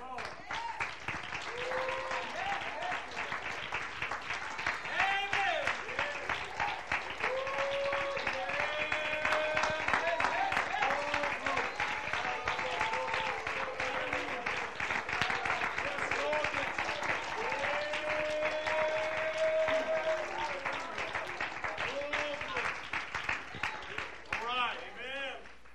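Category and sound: crowd, audience clapping and applauding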